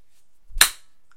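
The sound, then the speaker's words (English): A single sharp slap of a hand against the vulva, a crisp bright crack with a soft low thud just before it, ringing briefly and then silence. No one speaks. “Pussy slap. Try that one again.”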